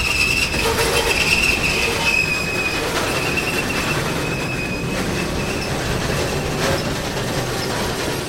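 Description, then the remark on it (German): A heavy freight train, the one known as La Bestia, rolls by loud from Tenosique in Mexico, steel wheels shrieking in sustained high squeals over a constant deep rumble and rattle of cars, with no voices. “Möglichst viel davon auf dem Zug, auf La Bestia, dem Ungeheuer, von Tenosique aus.”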